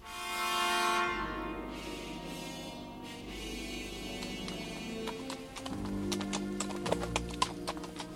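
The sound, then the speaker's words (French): The hooves of Angelo's horse clip-clop along a path in a steady, repeated rhythm, with sharp knocks growing more distinct toward the end, set against a low rumbling background. “Le chemin que suivait le cheval d'Angelo frappa de la tête contre un de ces rochers en forme de voile latine et il se mit à l'enlacer en direction d'un village dissimulé dans les pierres comme un nid de guêpe.”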